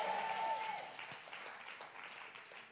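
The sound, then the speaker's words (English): An audience claps their hands together in a dense, continuous patter that starts fairly loud and eases slightly over a few seconds, with faint voices mixed in underneath. “Clap your hands and shout, yes.”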